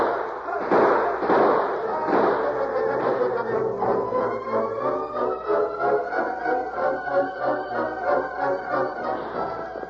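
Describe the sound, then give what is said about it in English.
A gunfire sound effect of men opening fire to kill: a quick flurry of sharp, booming shots up front, giving way to a sustained ringing whine with steady rhythmic pulsing underneath. “Now, open fire. Shoot to kill.”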